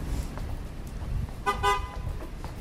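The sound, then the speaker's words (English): A car horn sounds in two quick beeps, fairly loud and slightly wavering in pitch, over a steady low rumble of road traffic. “It was a beep beep.”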